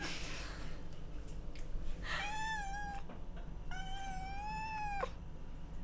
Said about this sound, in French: Ce chat ne s'est pas miaulé correctement, il fait des miiiiiii. C'est terrible. Et voilà, la chouine pour avoir de l'attention.